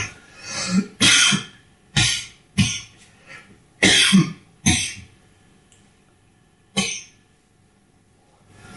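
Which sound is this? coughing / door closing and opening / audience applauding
coughing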